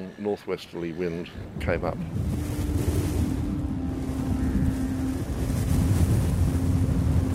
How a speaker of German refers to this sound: Aber dann plötzlich, gegen 11 Uhr vormittags, verschwanden die Wolken und ein starker Wind aus Nordwest kam auf.